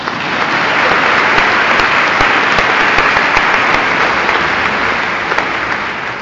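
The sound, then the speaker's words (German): Sustained audience applause, a dense, steady wash of many hands clapping at an even, fairly loud level for the whole stretch, with no voices standing out, given as thanks to helpers who were forgotten in the speaker's thank-yous. “Und dann geben wir jetzt denen, die wir vergessen haben, jetzt auch nochmal einen Applaus.”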